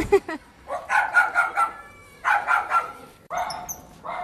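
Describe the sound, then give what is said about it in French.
Dogs bark and yip in quick, high-pitched bursts, fairly loud, with short pauses between the volleys and no one talking. They are an animal shelter's mascot dogs, not kept in kennels, spending the day at the shelter's reception area. “Oui, tout à fait, ce sont des chiens qui ne sont pas en boxe et qui ont la chance d'être un petit peu à l'accueil avec nous la journée et de rester en liberté la nuit.”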